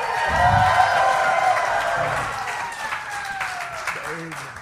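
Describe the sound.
A live audience at Parlor Live erupts in loud cheering and sustained applause after cash is thrown into the crowd, with whoops and shouting voices rising over dense clapping that carries on for several seconds before easing slightly.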